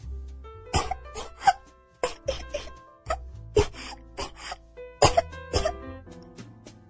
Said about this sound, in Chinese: 剧烈地咳嗽着，脸被憋得红得发紫，大口大口地喘着粗气。